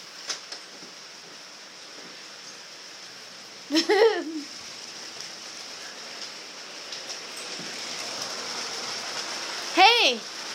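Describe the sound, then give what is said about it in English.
Steady, even rain hiss from a big storm, with no wind, runs through the whole recording without letup, broken twice by short, pitched vocal sounds, one near the start and another near the end. “In a way, I kind of love these big storms.”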